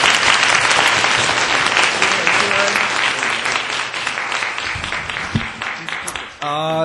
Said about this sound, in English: Okay, thanks a lot. We have to close there. And I think we should give our presenters and big round of applause.